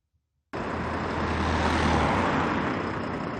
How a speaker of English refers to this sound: In Bethlehem, this bus is loading up with passengers to take them to work in Jerusalem, but they may already be late for work.